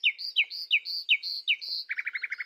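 nightingale singing

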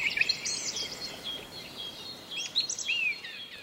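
birdsong

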